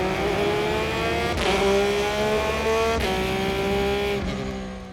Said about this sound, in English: First, we will listen to a stationary onboard recording of a Porsche 911 GT3, with microphones placed directly near the car's exhaust pipe to capture the raw, intense sound while driving.